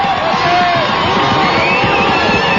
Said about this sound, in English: He turns on his microphone, which doesn't help anybody because we can't hear a thing because the crowd is so boisterous right now.